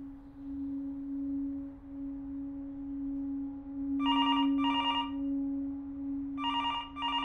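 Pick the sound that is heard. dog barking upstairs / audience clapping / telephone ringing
telephone ringing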